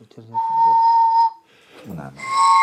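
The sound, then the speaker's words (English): Steady, sustained whistle tones from pigeon whistles on a flock in flight ring out clearly, fading briefly and then returning brighter and higher, with short bits of voice underneath. “Whereas Master Zhang, a former engineer, brought an exacting level of precision to his whistles, Master Ho is a brass musician.”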